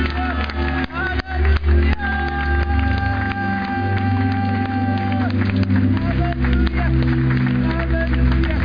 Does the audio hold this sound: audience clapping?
yes